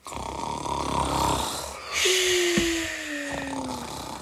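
A man lying on the ground of a schoolyard snores: a rough, rattling inhale followed by a long, sliding whistle as he breathes out, fairly loud with no talking.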